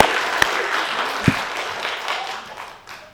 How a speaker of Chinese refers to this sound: 我们今天一起欢喜快乐，我们一起鼓掌来欢迎我们这三位弟兄姐妹。